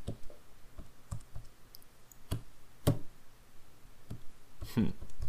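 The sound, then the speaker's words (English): Irregular light clicks and taps from someone typing numbers on a calculator to convert 6 thousandths of an inch to millimeters, fairly quiet, scattered unevenly across several seconds with a brief burst near the end. “I'm typing in my calculator what 6 thou are.”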